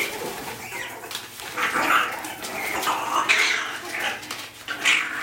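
Mongooses in a zoo exhibit holler impatiently, a string of shrill, whiny squeals and yelps in irregular bursts, several overlapping, over a low steady background hum with no talking.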